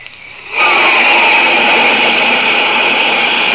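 A flight of jet planes flashes across the sky faster than the speed of sound, bursting in abruptly after a brief quiet moment and holding as a loud, steady rushing roar with no voices.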